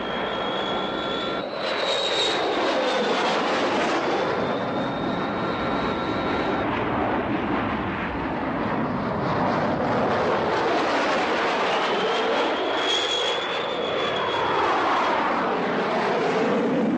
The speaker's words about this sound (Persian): همین الان یه جنگنده رو برای پرواز شما آماده کردن.